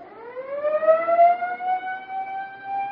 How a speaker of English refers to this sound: Siren's okay. Huh? The siren, try it. Oh, yeah, sure.